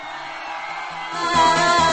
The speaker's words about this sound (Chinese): 是不是应该来点尖叫声呢？